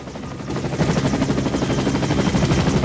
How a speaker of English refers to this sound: He runs along a sandy track, then stops and looks up at the noise of a helicopter. A military chopper's coming into land.